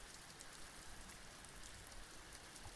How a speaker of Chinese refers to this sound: 而且外面还在下雨，下雨不是睡觉的最好天气吗？